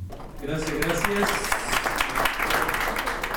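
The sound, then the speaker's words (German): Participants at a community radio gathering applaud with steady, dense clapping that fills the whole clip. A brief voice rises over the start of the applause. “Nochmal Applaus, ein Cocktail und dann ging es für die meisten Teilnehmenden bereits zurück zum Flughafen.”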